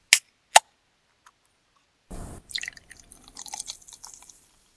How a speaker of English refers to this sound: Can we open that up and share it? Sure can. Oh, you brought two cans, though. I did. All right. One for each. All right, let's open one and get it poured